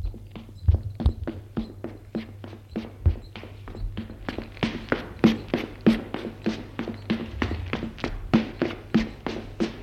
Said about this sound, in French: Il descend les escaliers en courant.